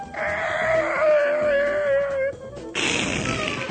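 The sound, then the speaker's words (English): A voice imitates the "Iron Swine" siren with a long, steady wailing tone that sags slightly in pitch for about two seconds, then breaks off into a short burst of loud, rough noise. “Iron Swine, that's the Iron Swine siren.”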